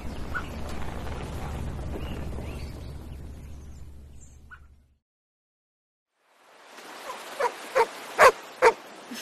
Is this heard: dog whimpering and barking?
yes